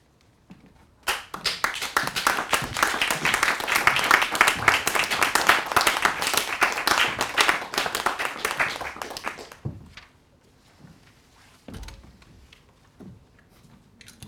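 An audience breaks into sustained applause, a dense wash of many hands clapping that starts abruptly, holds steady for about nine seconds, then fades to a few scattered claps.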